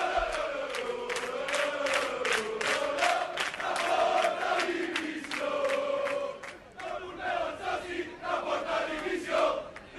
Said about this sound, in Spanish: Además de eso, antes del partido ya hubo mosqueo de la grada de animación que gritó a esto en los aledaños del estadio.